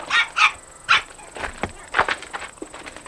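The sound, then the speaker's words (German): A dog being walked by a woman barks several times in quick, uneven bursts, followed by softer yips and rustling; no one speaks. “Da kommt eine Spaziergängerin mit Hund.”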